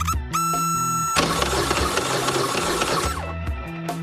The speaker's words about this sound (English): it still wouldn't start spitting and sputtering, almost like the timing's off